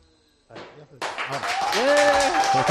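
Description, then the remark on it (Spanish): Bar patrons, villagers of Becerril de Campos, burst into dense clapping for COPE's El Partidazo broadcast. The clapping swells and holds steady, mixed with whoops and shouted cheers, after a brief voice at the start. “Si me estáis escuchando, vecinos de Becerril de Campos, aplaudid al partidazo de COPE.”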